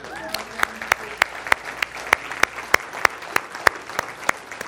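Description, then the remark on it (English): Audience applause with steady, evenly spaced claps standing out over a softer background patter, lasting a few seconds, with a faint voice briefly audible near the start. “We're all kind of like, we're hearing the applause.”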